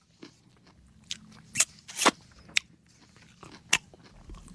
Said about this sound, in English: Diane, are your ears picking up the chewing?